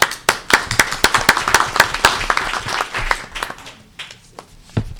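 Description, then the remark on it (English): An audience claps steadily, with many sharp overlapping hand claps forming a dense burst that thins out toward the end, leaving a few scattered claps. “So I really want to applaud and thank the faculty, the staff, students, and administrators who put forth this document.”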